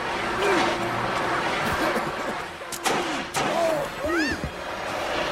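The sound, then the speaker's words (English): Two sharp, heavy bangs land close together midway through as a door is slammed shut by someone flying across a room using a fire extinguisher as a jet engine, over a busy backdrop of rushing noise and gliding, voice-like sweeps. “Tom uses the extinguisher as a jet engine, flying across the room and slamming the door shut.”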